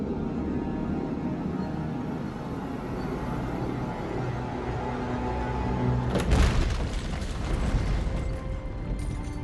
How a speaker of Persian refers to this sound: خبر شده؟ صدای انفجاره.